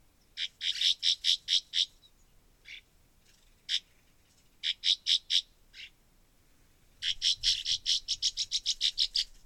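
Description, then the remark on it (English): Calls of a pair of northern rough-winged swallows flying past in Wisconsin in late spring: short, rough, buzzy notes in quick repeated bursts, clear, with a few isolated notes between runs and a long rapid series at the end. “There was a pair of northern rough-winged swallows flying past me.”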